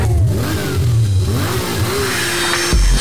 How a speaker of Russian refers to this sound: мотор ревет, как зверь, визг тормозов и свет от фонарей. Ставки сделаны, да, дави на газ, драг рейсинг, это все для вас.